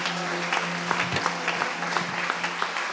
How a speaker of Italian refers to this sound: Facciamo un applauso al Signore.